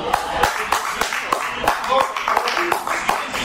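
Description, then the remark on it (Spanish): A few scattered, irregular hand claps ring out sharply as a football match begins after the anthems, against a background murmur of voices and chatter with cups and cutlery on plates, like sparse applause from a small scattered group. “Pero ahora los himnos transcurren sin darnos cuenta y el partido empieza con unos aplausos solitarios.”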